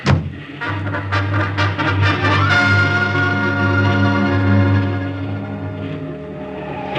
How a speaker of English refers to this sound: That motorcycle ride through enemy-held territory with that car full of Nazis firing at me was wilder than the stories in the comic books I used to draw for.